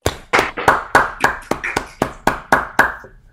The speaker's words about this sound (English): Okay, so let's all unmute to give him a round of applause for his great talk.